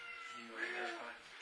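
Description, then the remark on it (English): A cat lets out a single drawn-out meow with a wavering, slightly whiny pitch, fairly quiet and set against a faint background hum. “How do you train your cats, your indoor cats, to stay on the counters?”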